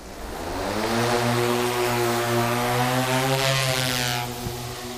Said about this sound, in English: And then there are drones.